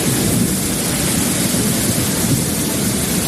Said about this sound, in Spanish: Así sonaba esta mañana la lluvia en Puerto Llano, en Ciudad Real.